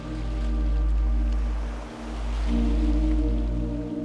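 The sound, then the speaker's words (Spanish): Gentle sea waves wash steadily in a continuous, soft rush of water with a low rumble underneath, swelling slightly and easing off around the midpoint before building again. “Tras un rato, decides parar un rato tu paseo para bañarte en el mar.”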